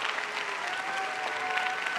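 An audience claps steadily in dense, continuous applause, with a few high-pitched cheers and whoops rising above the clapping throughout, welcoming a guest.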